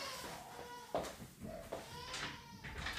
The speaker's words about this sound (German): Ja, also das fehlt noch, ne, dass mir hier das Baby in meinen Podcast reinbrüllt.